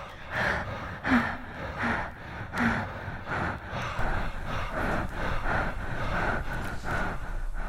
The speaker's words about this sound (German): Zum Beispiel kann man auch das schwere Atmen eines Mannes und das schwere Atmen einer Frau zusammenschneiden.